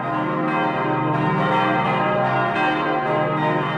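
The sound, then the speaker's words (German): Several church bells, cast in 1951 by the Paccard foundry in France together with a historic 15th-century bell, ring together in a full, continuous peal, their overlapping tones sustained and loud throughout with no voices present. “Unsere anderen Glocken stammen aus Frankreich, von der Gießerei Paccard, wurden 1951 gegossen.”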